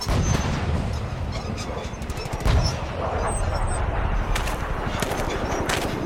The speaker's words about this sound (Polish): To ma być prawdziwa wojenna zawierucha, tak żeby nikomu nawet do głowy nie przyszło, że to w kraju kręciliśmy. Jak na froncie, panowie? Jeńcy gotowi? Więcej dymu, kurwa, i strzały! Teraz! Napierdalać!